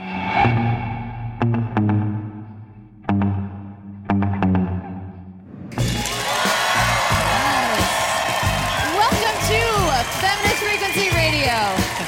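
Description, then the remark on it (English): A short tonal musical intro with punchy hits gives way to a loud, sustained wash of applause and cheering from the live audience of a live show, with shouts and whoops rising above the clapping for several seconds. “You can stop applauding now.”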